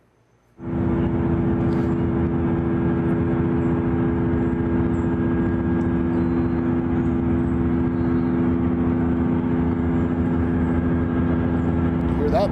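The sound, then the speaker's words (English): A loud, steady mechanical hum from a data center facility kicks in abruptly after a brief quiet moment, then drones on unchanged with layered low tones and a broad rushing noise. “Videos like you just saw there have been shared online showing residents living near the facilities, and they describe that constant humming all the time.”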